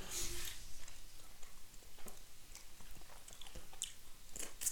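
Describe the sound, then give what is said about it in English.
Chewing of gum, with wet smacks and small sticky clicks repeating in an uneven rhythm. The chewing is quiet and continuous, with no talking. “Not sure what it is, but it's got to be gum.”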